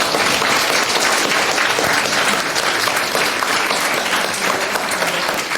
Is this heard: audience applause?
yes